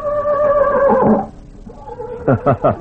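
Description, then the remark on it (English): The horse Tarzan gives a loud, high whinny that wavers and falls away over about a second, then, after a brief lull, lets out three quick, rhythmic snorting nickers. “Well, that was Tarzan again.”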